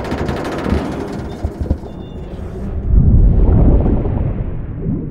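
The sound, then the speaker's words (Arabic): A deep, rumbling explosion sound effect of a submarine imploding when outside water pressure exceeds the pressure inside, with crackling bursts that swell into a heavy low roar midway, then trail off. Loud, with no voices. “ده امبلوجن”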